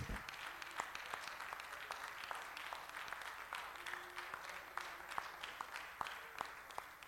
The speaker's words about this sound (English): If we could give God a hand clap of praise, and you can be seated at this time.